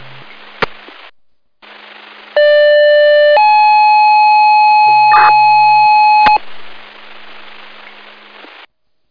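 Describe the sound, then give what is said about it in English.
Herkimer County fire dispatch pager tones over radio static, calling for drivers for a stroke call at Singing Waters campground: a loud steady tone holds for about a second, then steps up to a higher tone held for three seconds before cutting off with a click. “We're County 204, third Tones driver needed, inlet second Tones driver needed.”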